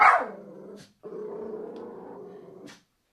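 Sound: dog barking and growling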